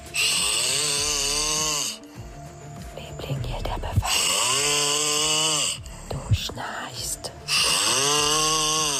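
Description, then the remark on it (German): Loud, rasping snores from a sleeping man in Brandenburg, Germany, recorded by his partner, each long rattling breath repeating in a slow, steady rhythm with brief quieter gaps between them, unaccompanied by talk. “haben uns Schnarchgeräusche ihres Partners geschickt, weil sie gesagt haben, also der hat den Titel größte Schnarchnase Brandenburgs verdient.”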